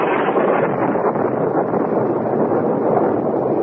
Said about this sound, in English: Fury of a demon, a tropical storm broke, and huge waves lashed at the shore below us.